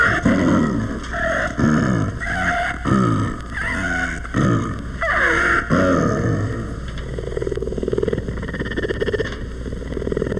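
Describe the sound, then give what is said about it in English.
Tibet the Second, the San Diego Zoo's rare snow leopard, growls in a series of rough, rasping bursts, each broken by a noisy intake of breath, loud, then easing into a lower, steadier rumble toward the end. “This, with its peculiar inhalations, is the growl of the San Diego Zoo's rare snow leopard, Tibet the Second.”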